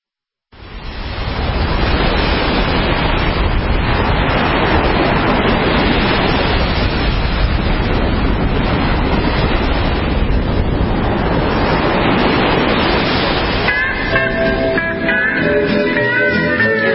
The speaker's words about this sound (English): From Honolulu, the iHeart Studios, not too far from the sound you heard at the start of those waves off the beautiful blue water